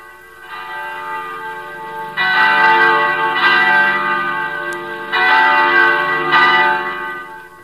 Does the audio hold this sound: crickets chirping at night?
no